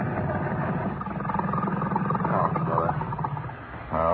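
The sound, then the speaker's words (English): A boat engine, anchored in a harbor, races steadily, a loud, continuous low rumble with a gritty mechanical roar, its pitch wavering as it revs and surging once more near the end. “Now, can't we give the engine a rest? Just racing it here, anchored in my own harbor, is too much like treading water when I really want to be in the swim.”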